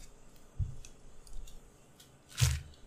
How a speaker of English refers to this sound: He's chewing. He's getting it down. Okay. This bread's really soft. It's really plain.